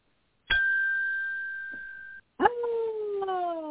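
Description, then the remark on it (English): A hotel desk bell is struck once, its clear metallic ring hanging for nearly two seconds before it cuts off, followed by a different sustained, slowly falling howl-like tone. “So you can either ping the hotel bell if I start ranting too long or just jump right in.”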